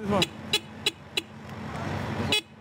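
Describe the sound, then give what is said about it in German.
Busy street traffic in the Midtown business district of Manhattan rumbles steadily while a few short, sharp car horn toots sound in quick succession, then another a moment later. “Ein Manhattan Rider, ausgerüstet für den Kampf gegen die Zeit und den Verkehr des Geschäftsviertels Midtown.”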